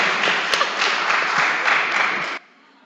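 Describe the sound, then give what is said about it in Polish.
An audience claps for the youngest participants of a school group in a dense, steady wash of applause for about two and a half seconds, fairly loud, then it cuts off abruptly into near silence. “Klaszczmy, kochani, klaszczmy.”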